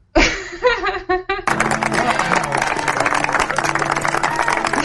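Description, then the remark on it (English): A brief burst of laughter gives way to dense, sustained clapping, a loud, even wash of many hands that holds steady right to the end. “A lot of clapping in this episode.”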